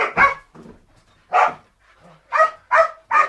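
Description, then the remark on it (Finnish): Several sharp, loud barks from excited dogs after a dog-cognition research session ring out in an uneven burst, two quick ones first, then a pause before three more in fast succession, with faint yips between. “Niillä on selvästi hauskaa tutkimuksen jälkeen. Murret ja turret suorastaan riehaantuvat.”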